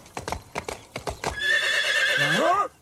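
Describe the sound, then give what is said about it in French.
The Roman centurion Mordicus's horse entering a small Gaulish village: hooves clip-clop in a quick, steady rhythm for about a second, then the horse lets out a loud, wavering whinny that drops in pitch at the end. “Non, je vais aller les voir, moi, ces Gaulois. Préparez mon cheval.”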